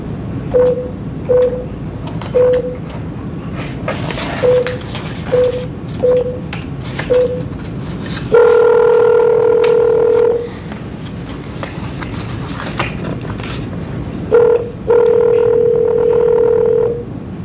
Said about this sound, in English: But before I go forward, I do need to make a phone call to your sister, I believe. That's who it is. So you could just hold on and let me make this phone call, sir.